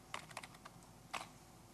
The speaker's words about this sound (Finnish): Eli nyt se odottaa niin kauan aikaa, kun mä tuohon naputtelen jotakin ja painan returnia.